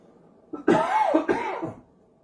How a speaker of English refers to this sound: Oh, man. I about didn't get through that prayer without coughing in everybody's face.